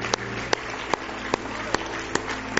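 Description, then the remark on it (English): In church, an audience claps hands together as praise to the Lord in a steady, rhythmic beat, seven sharp unison claps at an even pace over a low, continuous hum and background murmur. “Why don't you just give the Lord a big hand clap of praise?”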